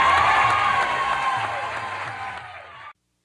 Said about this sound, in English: Thank you, ladies and gentlemen. Good night. Hey, how about a nice round of applause?